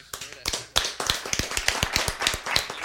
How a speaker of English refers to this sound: Golf clap.